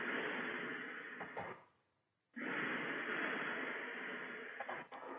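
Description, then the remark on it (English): A steady, loud whooshing roar of an air conditioning unit running, dropping away for about half a second before surging back at the same level. No voices. “Are those planes going overhead? No, it's my air conditioning.”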